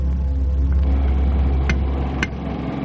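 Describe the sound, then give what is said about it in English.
A loud engine runs with a deep, steady rumble and droning harmonics, holding an even idle throughout, with a couple of brief mechanical clicks near the end and no voices. “Come on with that engine, will you”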